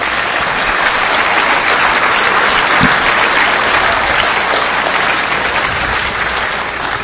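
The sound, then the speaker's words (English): Sustained applause from a large audience for the 100 hackers who stayed up 30 hours straight, a dense, even wash of many hands clapping at steady loudness for several seconds with no voices standing out. “So round of applause just to the hackers for staying up that long.”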